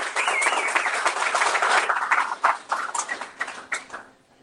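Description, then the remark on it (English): A round of applause: dense, crackling clapping from a crowd, loud and sustained for a few seconds, then thinning into scattered claps before fading out. No one speaks. “Once again, give him a round of applause.”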